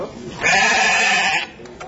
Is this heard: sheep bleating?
yes